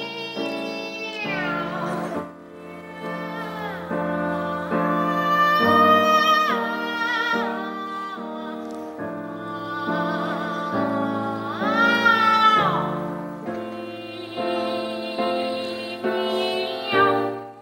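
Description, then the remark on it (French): Five cats arrive yowling at once in a loud, continuous chorus of overlapping wails, with pitches sliding up and down and swelling twice into louder cries, and no talking. “Et soudain, 2 chats, 3 chats, 4 chats, 5 chats sont arrivés hurlant.”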